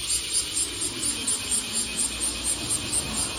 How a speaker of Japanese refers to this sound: 鳴いてますよ。セミが、車が通りますしね。5時40分ですよ、まだ。すごいな。